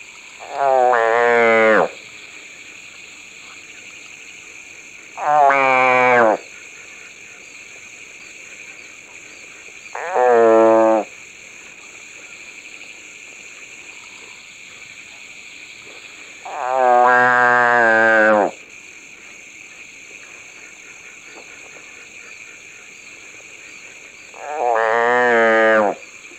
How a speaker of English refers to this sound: Large species can produce impressive distress calls. Consider this pig frog, crying repeatedly with mouth open after being captured.